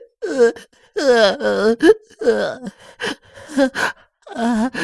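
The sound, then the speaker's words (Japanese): A person wails and sobs after being scolded, in a string of loud, quavering cries, with short gasping breaths and brief pauses between the drawn-out bursts. “叱ってって言ったのに、いっぱい泣いてごめんなさい。”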